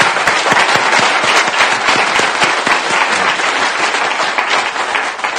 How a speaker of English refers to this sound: They clap.